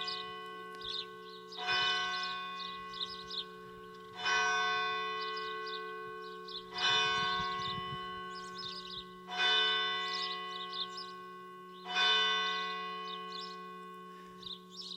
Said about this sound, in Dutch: En zo konden we toch even luisteren naar dat geluid van die klok, die een beetje als het kloppende hart is bijna van deze biddende gemeenschap die hier al zoveel jaren aanwezig is.